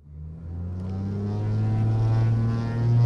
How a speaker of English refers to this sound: At least four times a day, a Cape Air pilot fires up a nine-seat propeller plane in Hagerstown, Maryland, and takes off for Baltimore, sometimes with no passengers aboard.